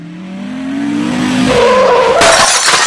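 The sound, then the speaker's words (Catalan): A car skids on snow with a rising, squealing whine that builds for about two seconds, then slams into something in a loud crash with clattering debris. “Maleïda neu, per culpa d'ella he xocat.”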